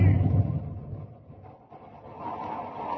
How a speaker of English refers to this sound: A storm's breaking! And it's raining!